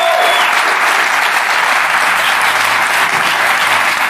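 Steady, dense applause from a crowd fills the whole stretch, loud and close, a continuous wash of clapping hands with no talk over it.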